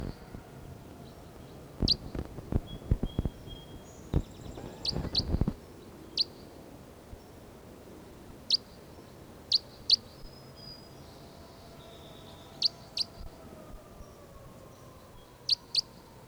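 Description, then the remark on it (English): Short, sharp bird chirps ring out at irregular intervals, some in quick pairs, over a steady outdoor hiss with a burst of rustling near the start. No one speaks. “Recording this bird 306 again.”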